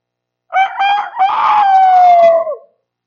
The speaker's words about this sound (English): Just as an aside, have you ever noticed that each rooster has its own crow? That the cock crowed. Not sure of the language there, but it did.